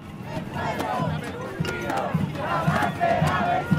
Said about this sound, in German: Trommeln und Sprechchöre, tausende Menschen mit Fahnen und Bannern. Dann Tränengas, Steine fliegen, aus einer Seitenstraße schießt ein Wasserwerfer, Barrikaden brennen. So ging das jeden Freitag auf der Plaza Italia im Zentrum von Santiago